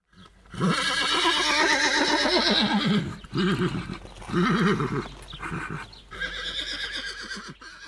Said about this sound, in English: What's that? It's a horse.